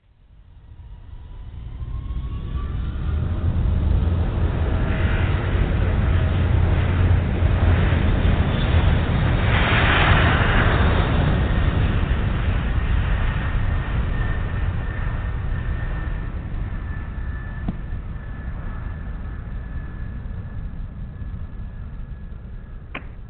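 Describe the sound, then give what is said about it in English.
The engines of Eastern 266, a jet airliner taking off from Miami with winds from the east at 5 knots, rise into a loud, steady roar with a high whine, then ease off slightly; a single brief thump from wheels touching down at the end of the trip comes near the end. “Airplane taking off and also the sound of the wheels touching down at the end of the trip.”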